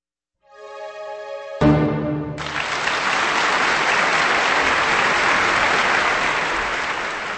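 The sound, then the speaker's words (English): A sustained orchestral chord from the Vienna Philharmonic Orchestra under conductor Claudio Abbado, ending the overture to Emil von Resnicek's comic opera Donna Diana, fades into loud, dense concert audience applause that swells quickly and continues steadily, a broad wash of many hands clapping. “That applause for the Vienna Philharmonic Orchestra and conductor Claudio Abbado with the overture to an opera that was the tale about the triumph of love in ancient Barcelona, the comedic opera Donna Diana by composer Emil von Resnicek”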